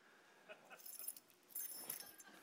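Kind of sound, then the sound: household object, keys jangling in hand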